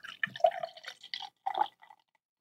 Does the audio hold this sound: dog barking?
no